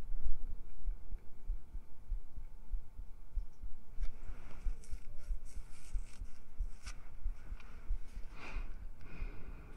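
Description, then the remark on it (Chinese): A steady, muffled heartbeat thumps low throughout, with soft rustling and brushing sounds layered over it in the second half. “这样听不到心跳，不会，你正常也听得到心跳，给你魔法。”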